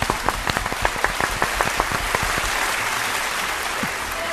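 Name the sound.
applause sound effect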